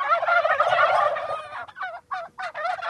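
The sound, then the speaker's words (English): A flock of heritage-breed bourbon red turkeys chatter on organic farmland a few miles off the Mississippi River: a dense burst of overlapping gobbling at first, then a string of separate, rising yelps and clucks with short pauses between. “They also raise chickens, pigs, and turkeys, including heritage breeds like these chattery bourbon reds.”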